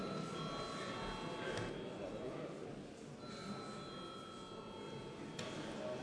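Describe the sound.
A parliament session bell, rung at the chair's request before a vote on a bill amending the education law, rings steadily for several seconds, a sustained metallic tone with bright overtones, while a low murmur of voices continues underneath.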